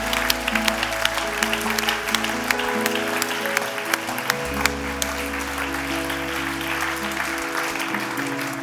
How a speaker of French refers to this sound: Est-ce qu'on peut applaudir le Seigneur bien fort?